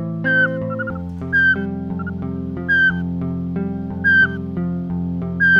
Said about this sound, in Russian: слышал, это сычи.